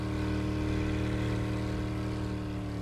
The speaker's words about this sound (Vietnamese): Dành bớt ga cho tiếng máy nổ không át hẳn tiếng nói của mình và giải thích.